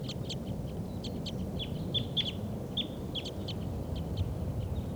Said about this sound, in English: Start recording the wild birds.